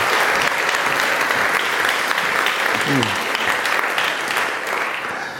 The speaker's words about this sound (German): dann würde ich euch mal bitten, einen Applaus für Kevin zu geben